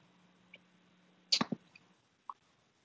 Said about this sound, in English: If I die in a coughing fit